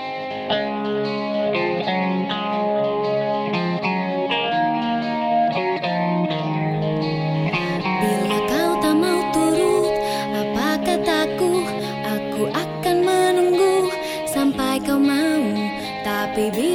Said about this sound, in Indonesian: Baiklah saudara, menutup perjumpaan kali ini, mari kita dengarkan 2 buah lagu